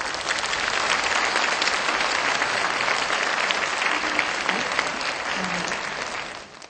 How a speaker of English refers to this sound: Please welcome each of them with a warm round of applause.